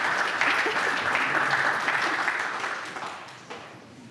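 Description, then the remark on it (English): A crowd applauds a volunteer with steady, dense clapping that holds strong for a few seconds, then gradually thins and fades toward the end. “Big round of applause for our volunteer.”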